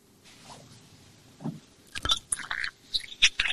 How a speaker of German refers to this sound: So, Schluck Wasser muss sein.